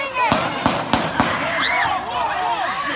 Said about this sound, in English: And pretty quickly, the thing that you might be afraid would happen in that kind of scene occurred. There were gunshots.